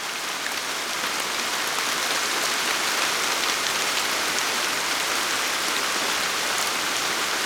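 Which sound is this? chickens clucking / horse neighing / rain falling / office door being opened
rain falling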